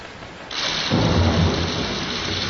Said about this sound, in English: I'm so sick of this rain.